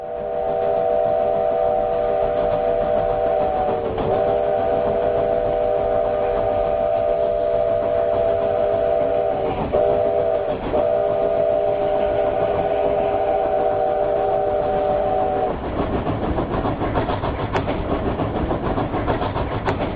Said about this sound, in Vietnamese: Ở thành phố miền Nam quận Cam này, mỗi đêm khó ngủ, tôi thường thức giấc vì tiếng còi tàu vẳng đến trong đêm vắng, còn nghe rõ tiếng bánh xe xiết trên đường sắt.